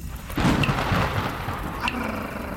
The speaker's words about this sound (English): The cloud to cloud lightning that we call chain lightning, it actually splits the nitrogen in the air. The splitting of that nitrogen creates a sound that we call thunder.